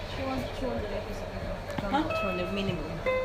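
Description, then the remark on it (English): An electronic alarm rings at a nurse's station with steady, high-pitched tones that come and go beneath ongoing speech, several sustained beeps sounding faintly over a busy background. “You may be able to hear it ringing in the nurse's station.”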